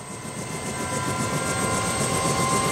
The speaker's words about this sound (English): Helicopters, Cobra gunships, provide cover from the air for the Marines on the ground.